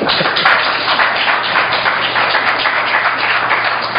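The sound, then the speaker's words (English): A crowd applauds steadily for the full four seconds, a dense, even wash of many hands clapping at once, loud and unbroken, with no voices over it. “I have 3 minutes left, so could people who want to applaud for anybody else have some time for that?”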